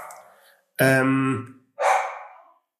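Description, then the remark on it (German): A female dog barks twice, loud, at someone walking past: a long, sharp, full-throated bark, a short pause, then a rougher second bark, preceded by a faint whine. “Da bellt sie.”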